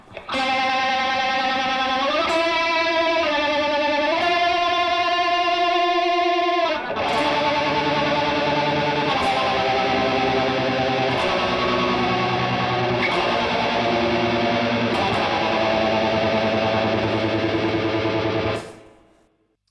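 Electric guitar played through a phaser, with held distorted notes that swirl and sweep before shifting into a busier riff with sharp, regular hits, loud throughout with no talking.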